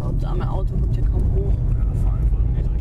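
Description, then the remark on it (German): A small car's engine drones steadily as it climbs narrow hairpin bends up a mountain road, having left the country road along a river, a constant low rumble with road noise, while muffled voices murmur faintly beneath it. “Das Navi hat uns mittlerweile von der Landstraße am Fluss weggeführt und zwingt unser kleines Auto, enge Serpentinen hochzufahren.”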